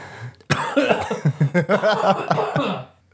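A person coughs in a loud fit: a sharp first burst followed by a rapid string of rough, voiced coughs that fade out after a few seconds.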